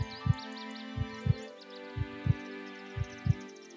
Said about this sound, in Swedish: Hon hade legat där ganska länge med äggen under sin duniga kropp, där ankungarna fick lyssna till ankmammans hjärtslag som tickade genom äggskalen.